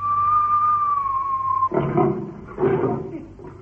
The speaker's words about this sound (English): Oh, it's gone. When it heard the whistle, it went.